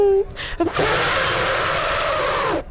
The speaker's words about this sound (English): Sorry, I had to blow my nose. That's okay. Oh, that's all right. That went everywhere. Yeah, sorry about that.